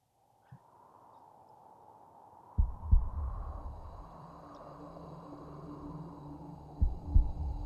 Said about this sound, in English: Can hear the wind howling in the background.